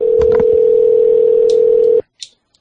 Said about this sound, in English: No answer there. We'll give one more ring.